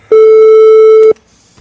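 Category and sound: signal or alarm, telephone call tones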